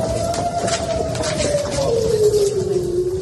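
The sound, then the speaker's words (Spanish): An air raid siren in Tel Aviv, sounding during a visit by Ursula von der Leyen, wails in a single sustained tone that slowly slides lower in pitch, heard over a steady wash of background noise with no voices. “Como es habitual, las alarmas de Tel Aviv volvieron a sonar y junto con toda su comitiva tuvo que acudir corriendo a un refugio del Palacio Presidencial.”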